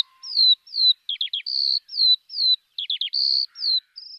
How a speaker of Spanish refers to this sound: ¿Cómo no sucumbir al encanto de los pájaros de las zonas rurales? Por ejemplo, esta es una alondra.